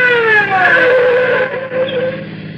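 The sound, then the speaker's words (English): A car slows down as a police patrol car pulls it over for speeding, its engine whine sliding downward in pitch with a faint squeal of brakes, settling to a low idle as it comes to a stop. “Patrol car let me roll ahead and swung in behind us, and we came to a stop.”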